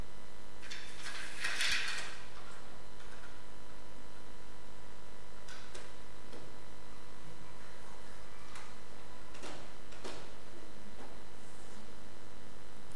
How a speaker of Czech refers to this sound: Takový dům, který nemá základ, jako moc nedrží. Tak já tam ty dveře vrátím a dám mu základ.